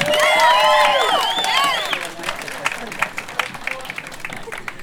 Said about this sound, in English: I'll let us get on with the party, but give yourselves a round of applause too.